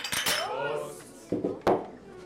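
Clinking cutlery and dishes in a staged scene set in the Wirtshaus zum Goldenen Spatz tavern, Oberammergau, 1633, late at night with five locals at the regulars' table; a few sharp clatters over a low murmur of indistinct voices in the background.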